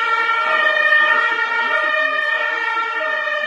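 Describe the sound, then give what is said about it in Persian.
Loud emergency sirens from an ambulance and a fire engine wail continuously and overlap in a sustained, steady tone, with no pauses over the few seconds and no voices, heard in the city of Taleqan during an armed clash. “استفاده از سلاح سبک و سنگین و ریختن ژالگونی گلوله بر سر و صورت شهر، صدای خودروهای نظامی، آژیر آمبولانس و آتش نشانی یک بار دیگر خاطرات تلخ نزدیک به یک سال پیش باشندگان شهر طالقان را تازه نمود.”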